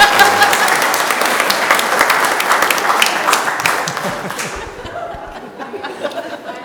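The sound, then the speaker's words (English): Sustained audience applause, a dense crackle of many hands clapping at steady loudness, with a little laughter mixed in, thinning and fading toward the end. “You don't clap for me when I read.”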